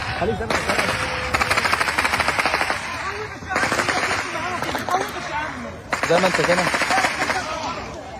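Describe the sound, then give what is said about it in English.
Bursts of rapid automatic gunfire crackle in quick succession, with voices shouting and a crowd murmuring underneath, the shots coming in several dense volleys separated by brief pauses; crowds of hungry Palestinians seeking food at a private aid point run under the gunfire. “Video captured by Palestinians seeking food at one of the private aid points shows crowds of hungry people running under rapid gunfire.”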